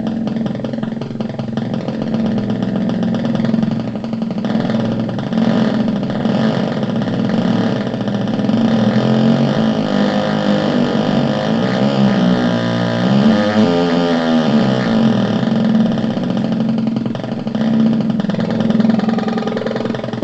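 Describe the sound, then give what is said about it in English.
An input stimulus sped up until it sounds like an idling motorcycle engine: a steady, buzzy drone runs continuously at a constant loudness, with a brief wavering shift in pitch partway through. No one speaks. “one kind of fun thing that I like that I've enjoyed doing with this is I can crank up the speed of the input stimulus to a point that it actually makes sort of a motorcycle sound.”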